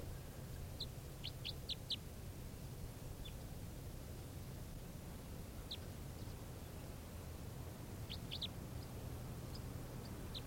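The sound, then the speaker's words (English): Bird calls of a type 3 call variant: short, high chirps come in a quick burst of several, then single notes and another brief cluster, heard over a steady low rumble of background noise. “This is the bird.”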